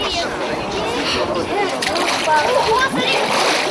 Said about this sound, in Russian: Но сырая погода и пронизывающий ветер мало способствуют тому, чтобы легко зайти в воду. Тем не менее, смельчаки находили силы окунуться.